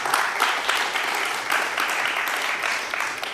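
An audience claps steadily for a few seconds, a dense crackle of many hands blending into a sustained, even wash of applause at moderate loudness, with no speech over it, welcoming a speaker at the start of a presentation on CryptPad.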